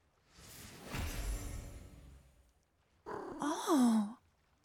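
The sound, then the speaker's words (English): A cat in someone's lap purrs in a soft, breathy rumble lasting a couple of seconds, then lets out a short, wavering meow after a brief pause. No one speaks. “Oh, it's a kitty cat.”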